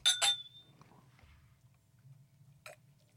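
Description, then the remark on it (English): Two quick bright glass clinks ring out close together as glasses are clinked in a toast, leaving a thin high ringing tone that fades, followed by a softer single clink a couple of seconds later over a low background hum. “Okay, well, cheers to A. Cheers.”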